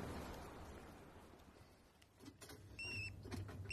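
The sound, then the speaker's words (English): Ferrets shuffling and scrabbling in a cage: soft rustling gives way to sharp clicks and rattles, then a few thin, high squeaks over a steady low hum, with no voices. “I'm just seeing to the ferrets.”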